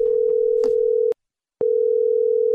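A steady, low-pitched telephone dial tone of an outgoing call placed by the Midlands 103 radio station hums loudly, with a few faint clicks early on, cuts out for about half a second, then resumes unchanged. No one speaks.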